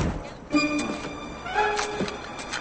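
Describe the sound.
A man slams a car trunk shut with a dull, heavy thunk, catching his tie in it, while a voice yelps and cries out in short, strained bursts around it.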